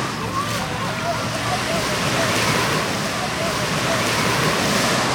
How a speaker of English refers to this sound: And we're now, like, standing at the Atlantic Ocean.